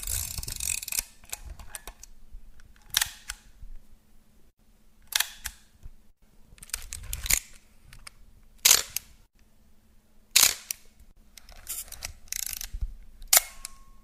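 A series of sharp mechanical clicks from film camera shutters (a Yashica Mat, then an Olympus OM10, then a Canon Demi half-frame), each snap followed by the ratcheting whir of a winding lever, repeated about seven times with brief pauses in between and no talking; recorded at home.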